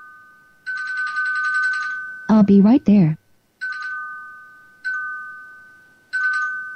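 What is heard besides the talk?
doorbell ringing repeatedly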